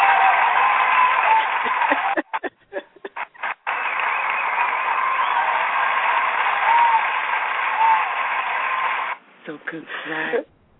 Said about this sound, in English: So here we go. Here's your applause we got to give you for being so